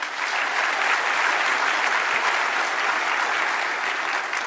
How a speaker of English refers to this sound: Let's give a round of applause again to our speakers.